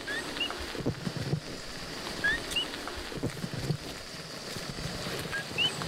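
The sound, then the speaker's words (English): Coqui frogs, common frogs of Puerto Rico the size of a paperclip, chirp in short, high, rising notes scattered irregularly throughout, several calls overlapping against a steady background hiss, with no one speaking. Heard on a rainy day on a steep, green road to a festival in Puerto Rico. “That chirping you hear is not a bird. It's the coqui, a common frog in Puerto Rico the size of a paperclip.”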